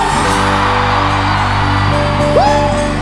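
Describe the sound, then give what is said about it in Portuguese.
A dense, loud roar of a large crowd shouting and cheering, sustained throughout, with a single rising whoop cutting through near the end over steady background music. “Só quem for aviãozeiro, por favor, dá um gritão. Quem tá feliz faz barulho.”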